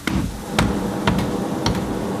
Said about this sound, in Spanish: se abre la espita y ahí dentro del edificio escuchamos el martillo pilón. Las levas, la andábara, los manubreiros, y aquí estamos dentro de la ferrería escuchando los golpes de un simple hilo de agua moviendo esa fuerza colosal. Un hilito de agua.